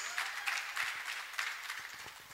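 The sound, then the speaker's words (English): An audience applauds steadily to welcome a speaker, a dense wash of many hands clapping at once, even in loudness throughout with no voices standing out. “A round of applause for Lady Episcopal Sister Adelaide Heward Mills.”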